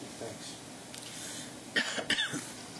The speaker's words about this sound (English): I've got a cold and a cough, and I apologize.